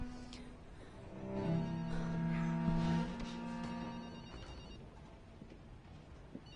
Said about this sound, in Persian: این گوشی لعنتی رو خاموش کن. این اون یکی گوشیه.